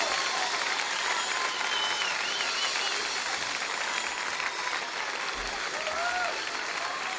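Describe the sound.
A crowd applauds steadily and loudly, dense clapping filling the whole stretch with a few faint voices and whistles mixed in.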